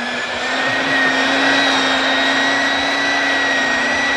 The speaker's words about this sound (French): je laisserai donc au sèche-cheveux lisseur Spicy Candy de chez Calor le soin de conclure ma chronique.